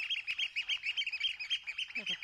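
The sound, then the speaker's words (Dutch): Oystercatchers calling in a loud, rapid stream of shrill, high piping notes that overlap and run without pause, with a brief lower call near the end. “Ja, dat zijn schoolexes hoor je.”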